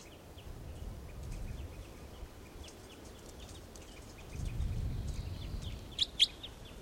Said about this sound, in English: Wild birds are calling a toucan nearby.